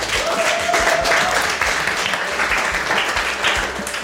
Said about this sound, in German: Aber Respekt, das war mega cool. Ja. Nochmal Applaus.